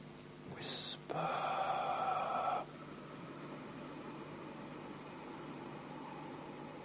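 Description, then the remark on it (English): In a breathing exercise, a short, breathy aspirated exhale through the mouth gives way, as the lips close, to a longer, steadier rush of air through the nostrils completing the out-breath, fairly loud, then quiet for the rest. “making that sound, the aspirated sound on the out-breath, a third of the way through the exhalation, we're going to close the lips, and without changing the breathing apparatus, we're going to continue the exhalation through the nostrils in this way.”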